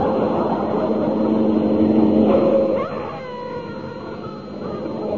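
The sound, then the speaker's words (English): A car engine roars loudly for a few seconds, then cuts off abruptly as the brakes are quickly touched to throw off a policeman sitting on the bonnet, leaving a thin, wavering squeal over a lower rumble. “Marvelous what a quick touch of the brakes can do.”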